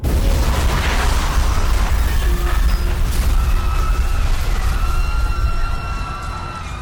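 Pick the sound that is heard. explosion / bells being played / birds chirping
explosion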